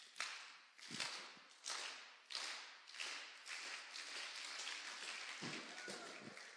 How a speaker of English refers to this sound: Okay, let's just start the clap again.